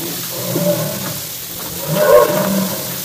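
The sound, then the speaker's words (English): Elephants at a circus, under the big top, bellow in two deep, drawn-out calls, one early and a louder one near the end, over a dull murmuring background with no one talking. “I've carried more pails of water for these elephants than I can count.”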